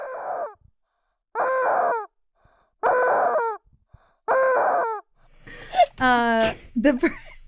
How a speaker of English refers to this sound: I kind of peek the chicken's head around the corner and I squeeze it again and shake, trying to make eye contact as the rubber chicken with the person who's supposed to be taking tickets.